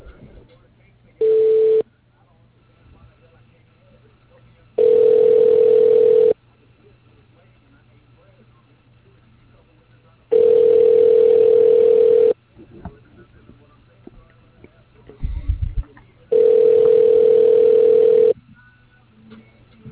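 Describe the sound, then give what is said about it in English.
A telephone ringback tone repeats four times while a call is transferred through a Mitel voice processing system. Steady buzzing bursts of about two seconds separated by longer pauses, with faint line hiss between rings and no one talking. “Please hold while your call is being transferred”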